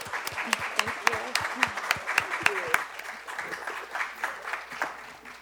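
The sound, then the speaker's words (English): An audience at a Free Library author event breaks into a round of applause for authors Rebecca Mackay and Nicole Dennis-Benn, many hands clapping in a dense, steady patter with sharper individual claps at first, then softening and thinning as it fades out. “But let's give another round of applause for Rebecca Mackay and Nicole Dennis-Benn.”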